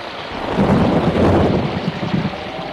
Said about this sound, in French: Un jour, il y a un grand orage.